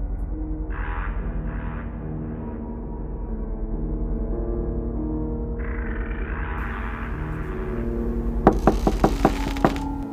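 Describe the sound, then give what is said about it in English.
A quick, insistent run of about six or seven loud, sharp knocks on a door, breaking through a low, tense musical drone that plays on its own before them. “Mom, open the door.”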